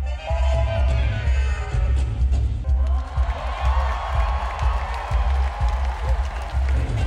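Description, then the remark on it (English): A concert crowd of about 5,000 people bursts into loud cheering and applause a few seconds in, after a band member's saxophone solo played through an effects pedal, a dense roar that swells and holds over the band's steady thumping bass and drums; recorded on a phone early in the show. “When he finishes his solo, the crowd goes nuts.”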